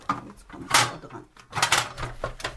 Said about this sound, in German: Nur hinter der letzten Tür der Schrankwand, da ist dieser braune Lederkoffer. Die Nachlasspflegerin nimmt eine Leiter und will den Koffer aus dem Schrank ziehen.